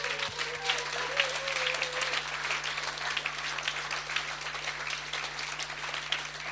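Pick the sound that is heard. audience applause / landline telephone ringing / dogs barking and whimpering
audience applause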